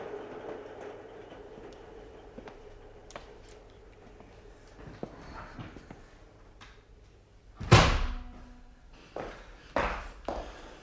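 A low, steady rumble with scattered clacks and a few sharp metallic bangs near the end, like a train rolling along rails, with no one talking.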